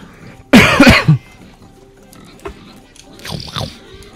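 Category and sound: animal, pig grunting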